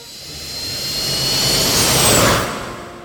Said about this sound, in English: As they ran, a strange humming sound came from the sky. It got louder and louder.